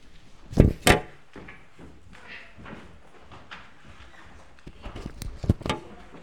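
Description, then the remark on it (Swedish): A door in a church, used to go up to Sunday school, is opened and shut with a couple of sharp knocks and clunks, followed by quieter shuffling and handling noises, then another cluster of bangs as it closes. “Nu går vi den dörren när vi går upp till söndagsskolan.”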